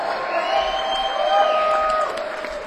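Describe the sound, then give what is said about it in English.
A crowd cheers and applauds steadily, with sustained whoops and shouts riding over the clapping, loud throughout before easing slightly near the end. “applause for Julia Hannah Hafner, please.”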